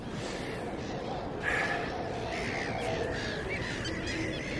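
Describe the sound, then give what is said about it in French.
Harsh bird caws ring out repeatedly from up high over a thick, steady wash of background noise, the calls overlapping, with no clear tapping audible beneath them. “Mais qu'est-ce qu'ils ont, les oiseaux, là-haut, avec leur sacré coup de bec? Mais ils finiront par casser les verres.”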